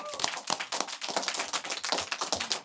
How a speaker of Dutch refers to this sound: Dus dank jullie wel. Daarvoor mag een groot applaus nog voor hashtag girlpower.